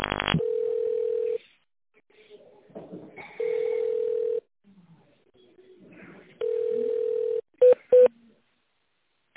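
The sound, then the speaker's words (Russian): Telephone tones over a phone line during a call to the automated menu of the Federal Postal Service Administration of Pskov Oblast: three long, steady beeps about a second each, then two quick short keypad beeps near the end, with faint muffled background noise in the gaps. “Для соединения с приемной наберите на клавиатуре телефона 1.”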